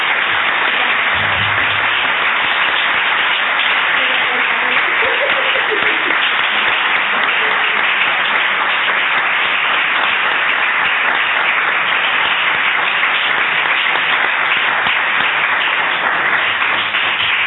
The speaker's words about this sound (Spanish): Así que le damos un aplauso a Carolina.